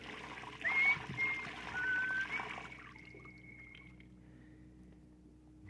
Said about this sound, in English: In a state of confusion, with an emotional distress quotient of at least 0.742, he stripped off his uniform and entered the shower.